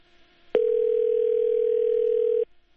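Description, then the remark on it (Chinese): A steady, loud telephone line tone from a Voice of America radio call to its reporter in London sounds alone for about two seconds after a faint click, then cuts off abruptly, the call not connecting, with no voice answering. “静玲在我们的线上吗？好，这电话可能我们要继续保持联系哈。”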